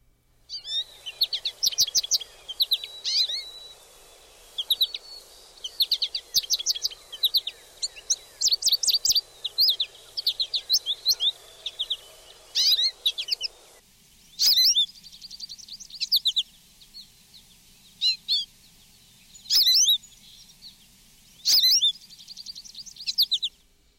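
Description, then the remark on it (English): American goldfinch calls: bright, rapid chirps repeating in a bouncy potato-chip rhythm, busy at first over a soft background hiss, then sparser, sharper notes standing out alone. “Make out distinctly that potato chip rhythm, but at any rate, that is one of the ways to spot the American goldfinches, and you'll often see small flocks, between five and a dozen or so of them that'll fly in at once”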